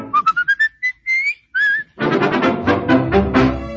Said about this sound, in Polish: Gdy skoro świt, budzę się zdrów, zaraz składam ustamek ciup, jestem wnet wszystkiego rad i gwiszczę na ten cały świat. Bo ja lubię gwizdać, to przyjemność dzika, w ustach mieć słowika.